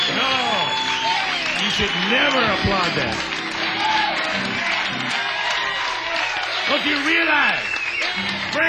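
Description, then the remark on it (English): A crowd applauds a song loudly and steadily for several seconds, with scattered cheers and whoops rising over the dense clapping, full throughout. “Don't you realize when you applaud a song like that, you're promoting mediocrity in the arts?”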